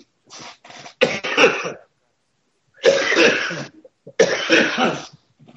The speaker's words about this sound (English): I can't wait to get rid of the cough.